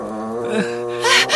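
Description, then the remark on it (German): A deep, drawn-out growl rumbles steadily, then swells into a harsher, raspy snarl near the end. It is fairly loud, with no talking over it. “Das Ungeheuer knurrt uns an!”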